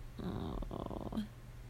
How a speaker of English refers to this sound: Oh my gosh, your tummy is growling so loud. You're so hungry, aren't you?